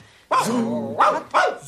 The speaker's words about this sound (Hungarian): Ez fickó, akiről annyit mesélt már Bors néni. Ez Bors néni édesapjának a kutyája.